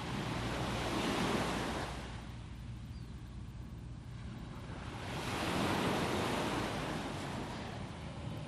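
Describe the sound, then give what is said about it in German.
Ocean waves wash onto a beach in two broad surges, rising and receding with a steady hiss of surf. Light wind rumble sits underneath, and no one speaks. “Genieß mit mir diese kleine Auszeit am Strand.”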